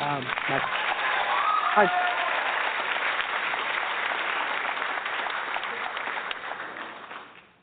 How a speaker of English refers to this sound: So let's give him some applause as well.